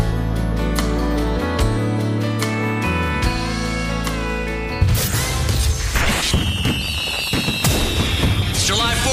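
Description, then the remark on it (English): Firecrackers go off for the Fourth of July in a loud, dense burst of rapid pops and crackles, with whistling streaks above them, following a stretch of music with sharp hits. “Boom, firecracker. Boom, sparkler. Happy 4th of July!”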